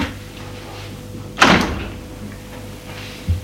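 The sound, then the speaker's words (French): A door swings and shuts with one sharp, rattling thud as a young abbé (priest) closes it, followed a couple of seconds later by a softer low knock over a faint steady hum. No voices. “Et le petit abbé ferme la porte.”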